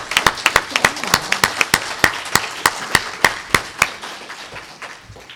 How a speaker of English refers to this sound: And I think we, all the children, should rise up and give a round of applause for their mothers right now, whether your mother's here or not.